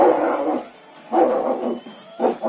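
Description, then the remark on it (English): A dog shut in a back room barks three times in loud, drawn-out, throaty bursts with brief pauses between, the last one shorter. No one speaks over it. “Listen to that cur. Boy, would he like to get at us.”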